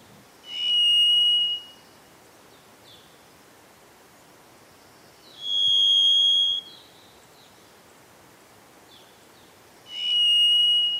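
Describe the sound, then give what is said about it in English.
A varied thrush sings three long, buzzy, whistled notes, each held about a second and spaced several seconds apart, clear over steady forest hiss with no talking. “And the varied thrush.”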